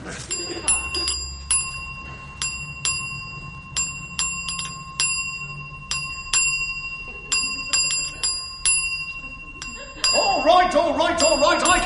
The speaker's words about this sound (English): It says if you want the attendant, ding the bell.